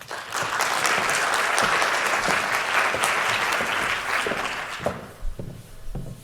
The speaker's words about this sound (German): Einen großartigen Applaus für meinen wissenschaftlichen Mitarbeiter